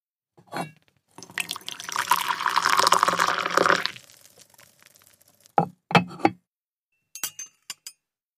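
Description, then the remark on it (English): A single china clink, then about three seconds of steady tea pouring into cups in a living room, followed by a few sharp clinks of cups and some light taps. “Some tea? Yes, please.”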